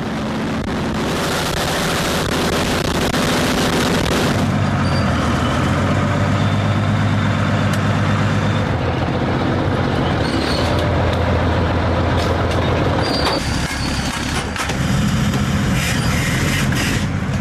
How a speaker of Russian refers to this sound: 45-тонна артустановка здіймає стіну пилу. Бійці мчать на позицію відразу після отримання координат цілі.